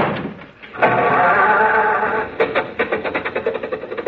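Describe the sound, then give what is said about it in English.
An old car engine, imitated by a voice, whines and grinds for a moment, then sputters into a quick series of rhythmic putts as it catches and starts, loud with no talking; a car that would not start being started. “Now, look, stop with the jokes and start the car, will you?”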